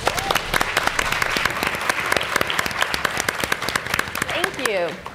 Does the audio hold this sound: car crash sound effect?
no